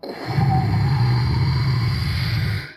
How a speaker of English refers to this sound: The rocket ship started lifting off in the air, but it only got a foot before. The engine sputtered out and it fell back to the ground with a big burst of rocket